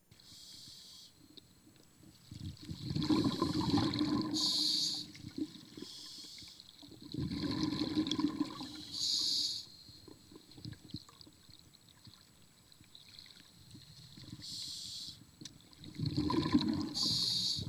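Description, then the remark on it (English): Muffled underwater ambience from scuba diving in Hague Quarry in Kankakee, with rhythmic bursts of bubbling exhalation from a regulator every few seconds, fairly loud, separated by quieter hissing lulls. No one speaks. “I was diving in a place called Hague Quarry, which is in Kankakee, about an hour south of here.”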